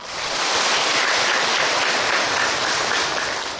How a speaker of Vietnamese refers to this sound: Nếu các vị đồng ý với sư cho 1 tràng pháo tay.